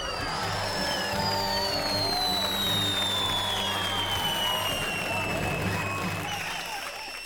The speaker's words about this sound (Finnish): Tästä aplodit.